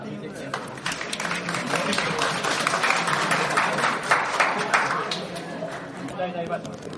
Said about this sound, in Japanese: 皆さん手拍子をして楽しくお聴きください。それではどうぞ。